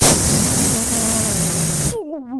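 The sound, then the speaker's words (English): A voice imitates a dog in its kennel urinating hard into the blanket: a loud, steady hissing spray lasting about two seconds, then breaking off into a short, wavering voiced sound. “and I look, and he's squatting in the kennel, both feet on the ground, and his dick is just shooting like hot piss, like so hard, into the blanket in his kennel”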